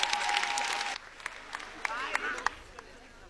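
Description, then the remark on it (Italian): An audience bursts into dense applause for a performer about to sing, lasting about a second, then it thins to a few scattered claps, with a steady tone at first and brief voices. “Signori, fate un grandissimo applauso”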